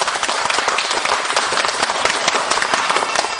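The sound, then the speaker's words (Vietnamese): An audience applauds steadily in a round of applause welcoming the monk Thầy Pháp Hòa. Dense overlapping handclaps form a continuous loud wash of sound that holds evenly throughout, with no voices standing out. “Hôm nay được mặt của quý vị là thầy Pháp Hòa người thật đó, học chú quý vị cho một tràng vỗ tay đó.”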